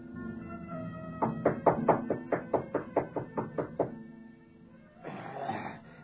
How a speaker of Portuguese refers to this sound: Em poucos minutos, Saul bate à porta do velho Araxes.